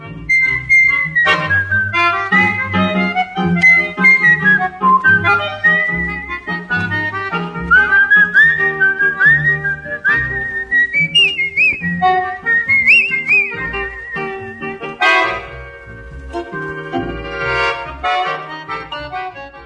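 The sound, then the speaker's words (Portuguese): A bright whistled melody glides and sustains over steady strummed and plucked acoustic guitars, the whistling loud in an upbeat Brazilian popular instrumental with no voices. “Estamos apresentando Domingo Brasil número 1038, com o tema O Assobio como instrumento na música popular brasileira.”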